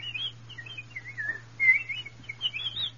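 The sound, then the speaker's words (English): A night bird sings a quiet, continuous run of warbling, whistled phrases rising and falling, heard alone over a faint, steady low hum. “And first a night bird sang.”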